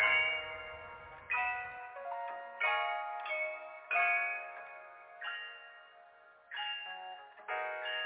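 A bell rings in a steady series of about eight bright, clanging strikes, each tone ringing out and fading before the next, loud, with no voices.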